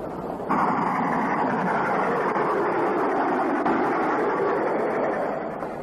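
A train runs steadily on its rails, a continuous broad rumbling roar that rises abruptly after a brief moment and holds at a fairly loud level throughout, with no voices.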